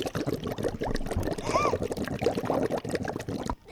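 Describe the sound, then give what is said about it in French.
Water bubbles and gurgles continuously, with dense, irregular bursts and a brief rising tonal blip partway through, loud, stopping abruptly near the end. “Des bulles. Faut que tu parles des bien bulles.”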